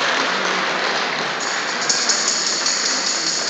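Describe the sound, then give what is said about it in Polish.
A church audience claps steadily for several seconds to congratulate a new father on the birth of his child, a dense, crackling wash of applause that holds an even loudness throughout, with no voices heard over it. “Tutaj chcemy przybić brawa, także brawa dla ciebie.”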